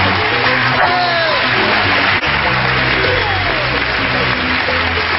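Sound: studio audience applause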